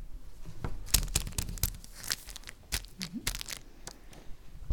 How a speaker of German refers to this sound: Plötzlich hören sie ein Rascheln im Gebüsch.